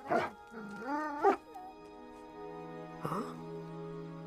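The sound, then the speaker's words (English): One of several wolves whimpers hungrily while pawing at a snow-banked rock: a short yelp, then a long, wavering whine that rises and falls, and another brief whine a few seconds later, all over a steady, sustained musical drone. “Below, one of the wolves paws hungrily at the snow-banked rock.”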